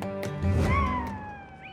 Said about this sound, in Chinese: 这不仅仅是这位女士的爱犬像狼一般的嚎叫，还是她在自己的智能手机上听到的波形刺青。纹身师内特·西加德把她的声效人体艺术称为声波刺青。